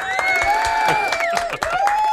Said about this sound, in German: kannst du mal einen Applaus machen?